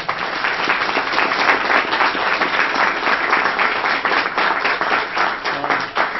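An audience applauds steadily for about six seconds, a dense wash of many hands clapping at an even, sustained loudness with no voices over it.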